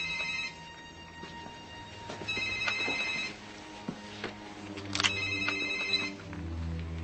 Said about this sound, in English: That phone. Turn it off.